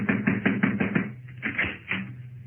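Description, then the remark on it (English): A quick series of about six sharp knocks on a door in a steady rhythm, moderately loud, followed by a few scattered thuds and muffled sounds. “I'll need you to knock on the door,”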